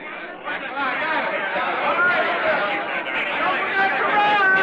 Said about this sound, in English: It's Sunday morning, a spring morning, and in New York's Pennsylvania Station, a young soldier gazes in awe at the swirling, bumping crowds that mill about him.